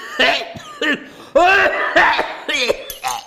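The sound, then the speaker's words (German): A man coughs hard, trying to cough something loose, in about six close throaty bursts over a few seconds. The coughs are loud and strongly voiced, with a harsh, straining quality. “Fester husten, zünftiger husten, Küch husten.”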